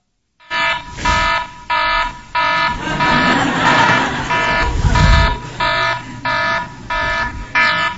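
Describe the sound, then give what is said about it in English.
An alarm clock rings loudly in a steady series of harsh, buzzing electronic bursts, about eight pulses with short gaps, while a low rumble swells briefly in the middle. “Every morning we woke up with the alarm clock. And you can hear the alarm clock, the sound.”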